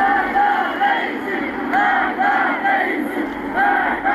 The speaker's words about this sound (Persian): گزارش‌ها حاکی از تجمع اعتراضی در روز یکشنبه در شهر کرد است. بنابر تصاویر منتشر شده در شبکه‌های اجتماعی، معترضان شعارهای علیه سران حکومت از جمله ابراهیم رئیسی، رئیس جمهوری اسلامی سر دادند.